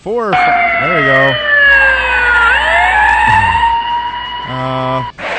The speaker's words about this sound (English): Oh, they swerved to avoid a car, apparently. Yes, trying to avoid a car. The car's driver did not hear the sirens over his loud music.